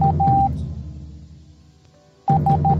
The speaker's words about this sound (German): Und auch akustisch setzte das V seinen Siegeszug fort. Im Morse-Alphabet klingt das V nämlich so.